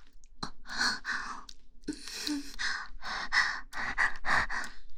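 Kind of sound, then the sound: human body sound, panting breaths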